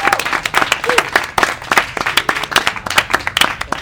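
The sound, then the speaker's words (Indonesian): Steady applause from an audience, a dense patter of many hands clapping at once, fairly loud, sustained throughout with no voices rising above it. “Tepuk tangan dong ya.”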